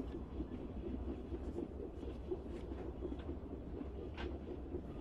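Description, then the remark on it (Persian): A steady low rumble of a train rolling along the rails, continuous and fairly loud, with faint rattling and a few light metallic clicks over the drone. No one speaks. “اگه ایستگاه بعد قطارمون رو عوض کنیم تا شب نشده میرسیم اتریش.”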